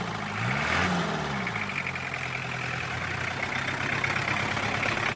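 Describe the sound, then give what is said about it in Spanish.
A tow truck's heavy engine rumbles steadily and loudly on a street in Buenos Aires as it approaches a parked car, with a brief rising whine early on as it revs, then holds a constant drone before cutting off. “En la calle, una camioneta de remolque se acerca al auto de Simón.”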